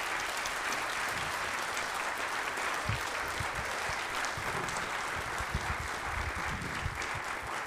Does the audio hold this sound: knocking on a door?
no